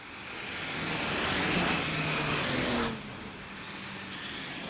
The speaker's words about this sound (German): Und jetzt im dreispurigen Ausbau, speziell Sonntagnachmittag, Montag früh, Pendlerverkehr von den neuen Bundesländern zu uns, beziehungsweise ab Donnerstag, ja, 14 Uhr können wir sagen, bis Freitagabend durchgehend Hauptverkehrszeit Richtung Osten.